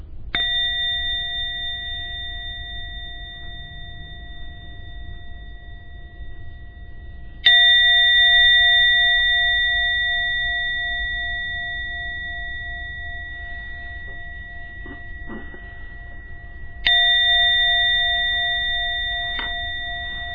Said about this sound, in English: Okay, I will be ringing the gong 3 times for you to slowly come out of your meditation.